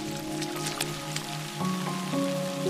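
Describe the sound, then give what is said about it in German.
Steady rain patters onto puddles, with scattered louder drips and splashes standing out, while soft sustained musical tones hum underneath throughout. “Dann rennst du zusammen mit Sunny durch den Regen.”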